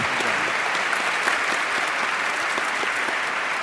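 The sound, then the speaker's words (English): Steady, sustained applause from an audience for the guests, including Lawrence Lessig. A dense wash of many hands claps at an even loudness throughout, with no voices standing out. “Let's have a round of applause for all of our guests, and we'll put Larry right on it.”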